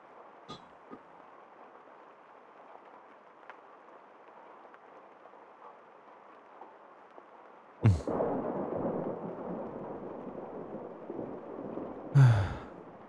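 Steady rain hisses outside, then a sudden sharp crack of thunder breaks in and rolls into a louder rumble, with another burst near the end. No one speaks.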